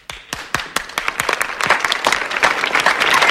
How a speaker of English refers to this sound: She runs out, and Aldis starts clapping.